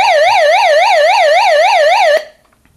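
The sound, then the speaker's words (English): An emergency weather radio's built-in electronic siren warbles rapidly up and down in a loud, steady repeating wail for about two seconds, then cuts off abruptly into near silence. “The one to the right alternates between weather alert for NOAA. I'll explain that in a second. Off and siren.”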